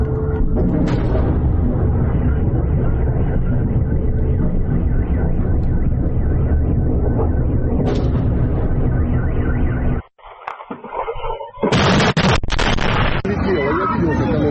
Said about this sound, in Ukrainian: После вот бахи идут, сирена орет.